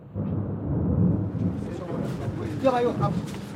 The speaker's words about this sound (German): Es blitzt und donnert. Und dann öffnet der Himmel seine Schleusen.